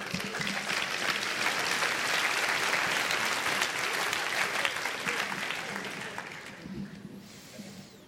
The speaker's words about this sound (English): Come on, let's clap Jesus.